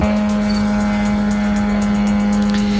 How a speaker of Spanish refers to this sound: Y este sonido son los drones rusos que la madrugada del miércoles sobrevolaron 250 kilómetros dentro de territorio polaco. Es una nueva acción de Putin.